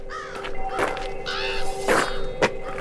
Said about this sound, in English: The calls of crows and ravens are the only sounds in this dark, lifeless place.